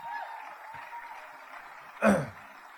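A steady patter of audience applause, a soft, continuous wash of clapping with one sharper, louder burst near the end, and no voices on top.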